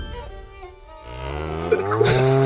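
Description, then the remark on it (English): A voice imitates an elk call: a strained, nasal tone that holds low, then climbs in pitch and grows louder into a squealing wail, with no words spoken. “I don't know what an elk sounds like. I'm sorry. I'm also sick. That's 100% elk noises.”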